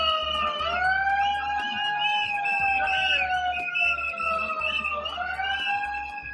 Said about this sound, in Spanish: La ministra de Trabajo, Yolanda Díaz, ha sido recibida en un acto en Toledo entre pitidos y gritos de dimisión por un grupo de manifestantes que pedían ayudas para el sector de la tauromaquia.